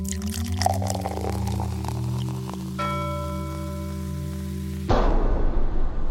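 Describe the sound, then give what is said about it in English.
Steady music plays for several seconds, then cuts to a loud splashing rush of liquid being poured out, lasting about a second until the end. “We need to take a moment here and pour one out for Codriner and Fenn.”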